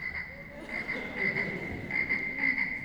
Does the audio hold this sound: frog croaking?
yes